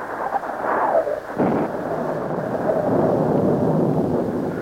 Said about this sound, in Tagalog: Nang magkagayoy, bumuhos ang ulan, humangin ang humangin, lumakas ang baha.